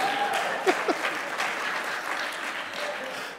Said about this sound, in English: I appreciate that applause despite my butchering of probably half of those.